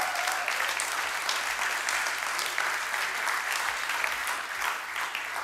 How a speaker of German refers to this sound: Ich finde, wir können unseren Lobpreisleuten einfach mal einen Applaus geben.